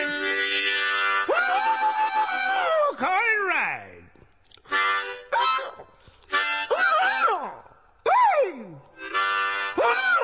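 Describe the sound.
A harmonica plays loud, reedy chords broken by swooping bends and sliding yelps and howls that imitate baying hounds on a chase, in short bursts separated by brief pauses.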